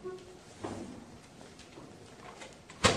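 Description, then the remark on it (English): A door being opened: a soft clunk, some faint rattling of the latch, then a sharper, louder knock as it gives way near the end. “Alright, let's get the door open and then everyone can try and listen again because everyone's attention is devoted to the door open.”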